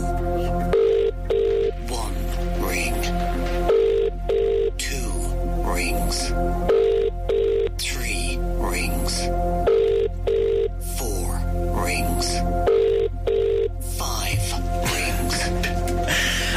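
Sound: telephone dialing and ringing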